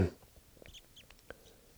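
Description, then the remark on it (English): A flock of birds on its way down to decoys, still very high up, gives short, high chirping flight calls, scattered irregularly over a couple of seconds, faint against a low background hiss. “I've got a whole flock on its way down to the decoys.”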